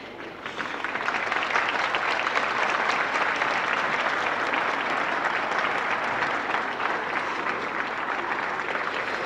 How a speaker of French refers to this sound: Vous entendez les applaudissements qui ont salué son entrée.